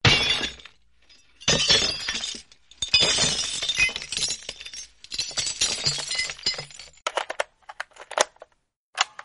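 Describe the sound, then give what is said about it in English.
Glass smashes loudly in a series of crunching crashes over several seconds, then scattered shards tinkle and clink as they settle. No voices are heard. “In case of inebriation or hangover, break glass.”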